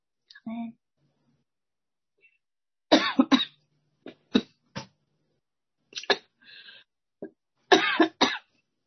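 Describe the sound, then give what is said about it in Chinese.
Several sharp coughs come in short bursts, mixed with throat clearing and a brief vocal sound at the start, separated by quiet pauses. “对不起哈，我今天有点咳嗽。”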